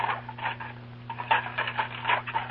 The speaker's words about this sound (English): You recognize that sound? Well, it's Mrs. Brown washing up the dinner dishes.